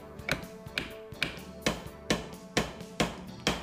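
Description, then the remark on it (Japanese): Steady hammer blows drive nails into wood, attaching the seat board of a wooden chair, about eight sharp knocks in a regular rhythm, clear with a short ringing decay after each hit. “で次は、はい、座板の方を取り付けていきますね。”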